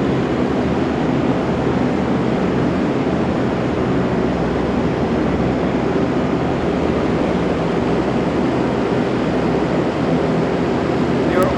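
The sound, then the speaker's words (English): A steady, dense wash of static from many old radios of different types, including small transistor radios, big old radios and 80s radios, hisses without pause: a broad crackling noise with faint humming tones threaded through it and no voices. “Making this weird kind of static noises, but they all have their own voice.”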